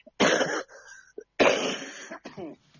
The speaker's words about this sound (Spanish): Y la tos también.